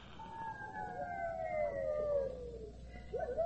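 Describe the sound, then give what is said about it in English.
Long, mournful howls of wolves coming into a village at night glide slowly downward in pitch and overlap for several seconds, fairly loud and clear, with a new howl rising at the very end and no talking. “The wolves. They're coming into the village tonight.”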